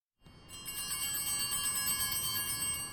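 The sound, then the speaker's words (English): Small handheld bells on a paletero's street cart jingle continuously in a rapid, shimmering ring, announcing paletas, Mexican frozen fruit treats, bright with no talking. “These bells mean paletas are around the corner.”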